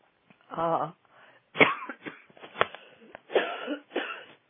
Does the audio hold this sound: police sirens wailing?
no